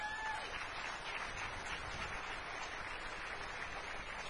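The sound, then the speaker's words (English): An audience at a yearly picking contest applauds steadily for those who set the contest up, a dense wash of many hands clapping at an even, fairly loud level throughout, with no voices standing out. “Actually, I think we should give Kai and the guys that set it up another round of applause.”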